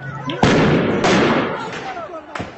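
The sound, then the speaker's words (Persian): Three sharp gunshots crack out at uneven intervals, loud and echoing, as government forces fire live ammunition at protesters in Kurdish western Iran, over a noisy outdoor crowd with people shouting in the background. “گزارش‌ها و تصاویر منتشر شده نشان می‌دهد که نیروهای حکومتی اقدام به شلیک گلوله جنگی به سمت معترضان کردند.”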